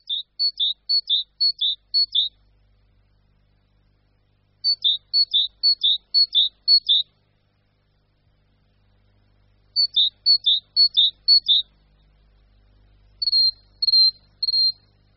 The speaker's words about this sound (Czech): Tak když uslyšíte tohle veselé jarní volání, nenechte se zmást. Nejde o žádnou vzácnost, ale o docela obyčejnou, ale nevšedně půvabnou sýkoru konjadru.